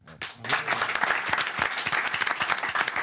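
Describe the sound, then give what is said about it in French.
After a brief pause, one man claps for himself after singing a short a cappella song. The clapping continues steadily for a few seconds as a dense, bright patter, with no talking over it. “Je m'auto-applaudis.”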